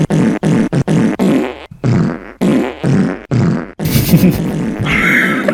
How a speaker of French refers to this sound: Donc vous venez crier une alerte à la bombe juste pour lâcher des flatulences